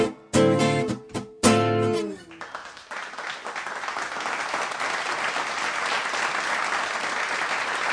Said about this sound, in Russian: Я слышу ваши аплодисменты, спасибо.